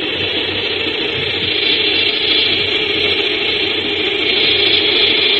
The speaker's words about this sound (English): The sound of a short-horned locust or grasshopper. And he produces it in a different way, also by stridulation, but he uses one of the teeth on the tibia, the hind leg, as a scraper, and he scrapes it along a ridge on the wing, which is the file